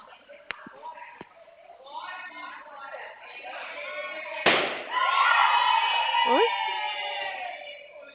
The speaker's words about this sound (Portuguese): Estão estourando os balões aqui na empresa, desculpa, viu?